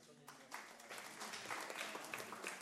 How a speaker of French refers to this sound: Mireille Heiniger, qui n'est pas là, mais on l'applaudit quand même.